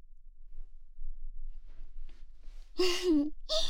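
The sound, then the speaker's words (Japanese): Intimate breathing for listeners on headphones: a few soft, faint breaths build to a loud, breathy voiced sigh-like exhale right at the microphone, followed by another airy breath. “スピーカーで聞かず、しっかりつけて聞いた方が、吐息も楽しめて、お得だぞ。”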